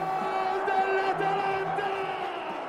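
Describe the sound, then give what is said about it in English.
A large football stadium crowd roars and cheers in celebration of Atalanta's fourth goal, a dense, steady wall of voices with shouts and whoops rising out of it, loud and continuous throughout. “As the Italians would say, it's a festa, a party in the crowd by now.”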